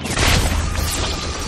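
Loud electric crackling and slashing sounds from electrified whips, charged by an arc reactor in suit arms, slicing through objects in a room, a dense burst of sizzling noise over a low rumbling boom, lasting throughout with no voices.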